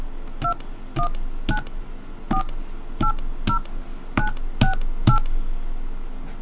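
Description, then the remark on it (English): A series of about ten short electronic telephone keypad beeps, each a two-pitched dual tone, pressed in an uneven rhythm over a low background hum, clear, as a PIN for a calling card is entered after an automated prompt. “Please enter your PIN now.”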